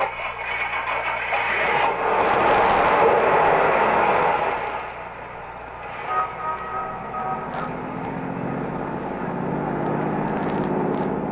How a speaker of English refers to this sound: Start your car. Head west of the highway and keep going till I tell you to stop.